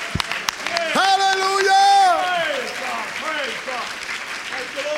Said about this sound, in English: Oh, let's all clap our hands.